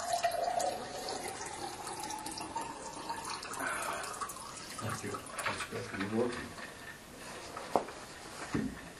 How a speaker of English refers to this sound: I'll let you pour it out.